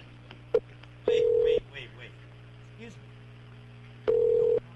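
A phone line rings out as a caller calls back: two steady ringback tones, each about half a second, spaced roughly three seconds apart, with a short click before them and a low electrical hum underneath.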